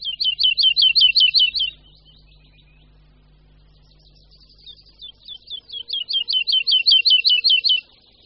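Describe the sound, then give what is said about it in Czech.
A woodlark sings two bursts of rapid, repeated liquid notes, loud, accelerating and fading, with a quieter warbling pause between phrases and a faint low hum beneath. “býval skřivan lesní u nás docela běžným ptákem”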